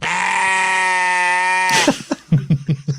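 A loud, drawn-out sheep bleat, used to bleep out a spoken word, holds steady for nearly two seconds, then cuts off abruptly as someone starts talking in short bursts.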